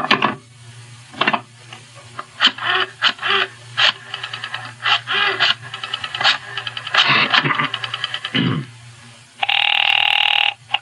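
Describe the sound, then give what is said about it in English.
A telephone rings while a call is placed to the Sky Top Club, a series of short, buzzy bursts over a low steady hum, ending with a longer sustained ringing tone. No one speaks. “Meanwhile, I must use the phone for a very important call.”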